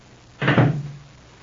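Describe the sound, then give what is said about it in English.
A front door shuts with a single solid thud, followed by a short low resonance that fades within about half a second. The sound stands alone, with no voices. “Rupert Barlow takes Mary's hand in his own and starts toward the front door with her.”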